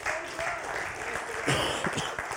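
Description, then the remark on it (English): An audience gives God a hand clap in the morning, a dense, continuous patter of many hands with no clear rhythm, swelling slightly near the end, with a faint voice or two underneath. “Give Him a hand clap this morning.”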